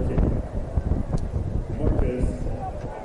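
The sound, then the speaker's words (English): Wind howls and buffets steadily for a few seconds at a baseball game, a loud, low rumbling roar with no clear break, while a faint crowd murmur sits underneath. “You hear the wind howling off the crowd, Mike, downstairs.”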